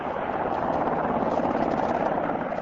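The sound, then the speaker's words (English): A UH-60 Black Hawk helicopter of the Air National Guard hovers over a forested area about a quarter mile from a lake while airlifting cut trees, its rotors producing a loud, steady roar with a constant rapid thudding, unbroken throughout and with no voices over it. “Crews guiding two UH-60 Black Hawk helicopters worked for several hours bringing the trees in by air.”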